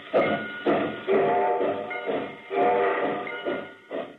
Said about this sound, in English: Hear that? It's a freight train pulling out of the departure yard of a terminal headed for points beyond.